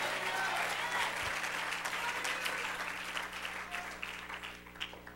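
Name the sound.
audience clapping hands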